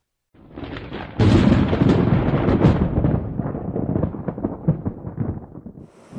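A loud thunder crash bursts in suddenly during stormy weather, then rolls and rumbles unevenly for several seconds with crackling peaks before slowly easing off. No one speaks.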